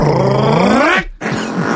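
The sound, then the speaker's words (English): A loud, buzzing fart whose pitch bends upward toward its end, followed by a brief silence and then a rougher, sputtering continuation. “It says a fart.”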